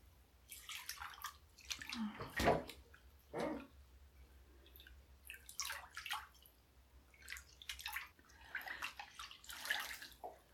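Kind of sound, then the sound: household object, dripping water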